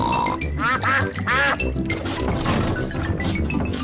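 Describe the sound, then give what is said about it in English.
Several ducks quack loudly in quick, overlapping bursts, with a steady low rumble running underneath throughout. “Hello, ducks. We're taking a shortcut.”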